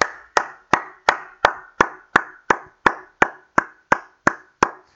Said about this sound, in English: When I put this in tweets and stuff with the hand clapping, I'm not sure if it has the same emphasis, so I'm going to add it in now.